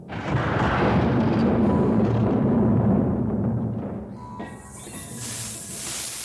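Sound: snakes hissing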